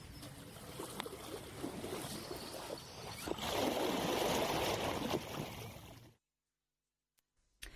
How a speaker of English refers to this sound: So that was me and … having a splash around